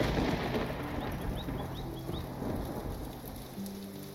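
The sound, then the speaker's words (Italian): Heavy rain pours down in a steady, dense hiss with a low rumbling undertone, continuous throughout. A few faint high chirps flicker briefly in the background. “Questa tempesta passerà.”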